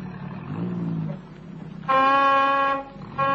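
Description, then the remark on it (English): A car approaches with a low engine rumble, then its horn sounds two loud, steady honks, the second one cut short. “Oh, there's the car. Yes, sir, it sounds like them.”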